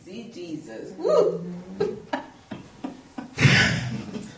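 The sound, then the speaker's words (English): A single sharp, loud sneeze bursts out near the end, right after a man's speaking voice, with a breathy, hissing burst. “Bless you.”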